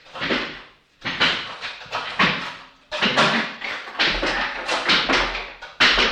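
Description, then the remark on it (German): Door sounds as a man arrives at a radio studio in Zurich: a run of taps, knocks and handle clatter in irregular bursts, with soft thuds underneath and no talking. “Und er ist schon unterwegs. Doch, er kommt zur Tür hin.”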